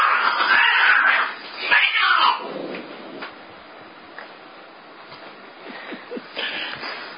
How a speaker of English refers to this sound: And we have the cat's contribution to our recording. Yes, we do.